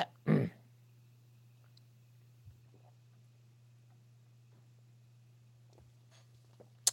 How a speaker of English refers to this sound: Have a quick sip of this drink, parched.